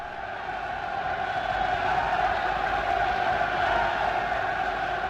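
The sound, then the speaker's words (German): A large crowd at Hitler's annual speech, a propaganda event in the Munich Bürgerbräukeller, applauds and roars in a dense, unbroken wash of sound that stays steady and loud for about five seconds, with a muffled, old-recording quality and no single voice standing out. “Hitler begann damals nach großem Beifall und nach einer langen Pause, so wie es seine rhetorische Methode war, zunächst extrem leise, langsam und scheinbar bedeutungsschwer.”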